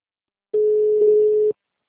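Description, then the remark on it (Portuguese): A call's alert beep sounds once when someone drops out: a single steady, mid-pitched electronic tone lasting about a second, fairly loud, with silence before and after and no voices. “Começou a apitar aqui? Tá ouvindo? Tô sim, mas começou a apitar”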